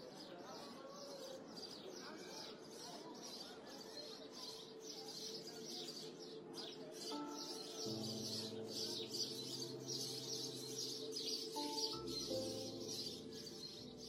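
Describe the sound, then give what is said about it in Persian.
A busy chorus of sparrows chirping nonstop in the morning, many high twittering calls overlapping at steady volume, with a low humming drone rising underneath partway through. “صبح آمد و چهره زمین اوریان شد، شب در خم و پیچ ناکجا پنهان شد، خمیازه ممتد خیابان محو از موسیقی جیک جیک گنجشکان شد.”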